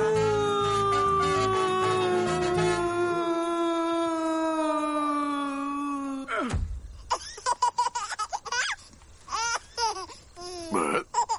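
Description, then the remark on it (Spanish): A single voice lets out a long, drawn-out howl that slowly slides down in pitch, imitating a wolf, then breaks off into bursts of laughter and excited vocal noises. “Una vez acampamos junto al río Limpopo y de repente una manada de lobos hambrientos nos atacó. ¡Oh, mon Dieu! ¡Cómo aullaban!”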